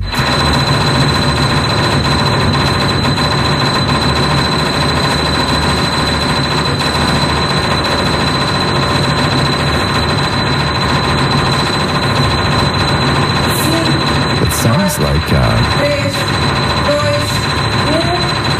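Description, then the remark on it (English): One piano key hammered at extreme speed in a world-record performance of 824 strikes in one minute, the strikes blurring into a loud, steady, buzzing rattle with a fixed pitch that never lets up, with no voices. “So the guy set the world record for playing a single piano key.”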